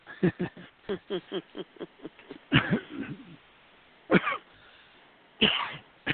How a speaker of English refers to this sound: Including a little wet cough. A little cough, yes.